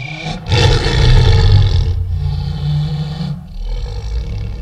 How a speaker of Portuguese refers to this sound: Comecei por ouvir uns rugidos de leão. E não eram de um leão bebê.